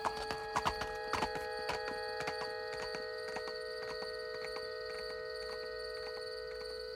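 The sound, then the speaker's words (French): Hooves of a galloping horse clatter on a hard cobbled road above the château at Comarque, loudest in the first second or two, then continuing more faintly over a steady, ringing tonal hum. “Et la légende raconte que quand on vient ici à Comarque, pendant la nuit de pleine lune, au mois d'août, on voit la torche qui est suspendue au-dessus du vide et on entend surtout le galop du cheval en fait.”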